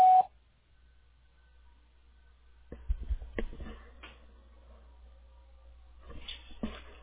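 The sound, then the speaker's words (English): A single short telephone keypad tone from pressing 1 in a voicemail menu sounds at the very start, a brief steady electronic beep, followed by quiet line hiss and scattered soft clicks and rustling. No one speaks. “Or to hear more options, please press 1.”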